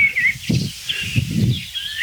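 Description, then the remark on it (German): Three song thrushes on the ground on the Zinken sing in short, high whistled phrases, while gusts of wind rumble low underneath and partly cover the song. “Wirklich keine einzige Amsel, nur drei Singdrosseln.”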